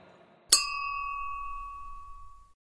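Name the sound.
glasses clinking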